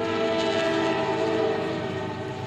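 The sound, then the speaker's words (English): An Amtrak train horn blares loudly and steadily over the rumbling roar of the train passing right behind a baseball stadium, Segra Stadium, its sustained tones holding for the whole stretch with no talking. “Amtrak roars by right behind us.”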